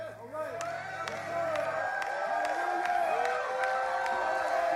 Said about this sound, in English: Isn't that something to say in a charismatic Pentecostal church? Here's what's in order. Shouting.